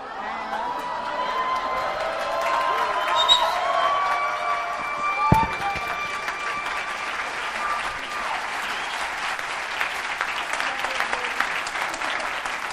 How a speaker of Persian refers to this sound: مرسی، تشویقش کنید.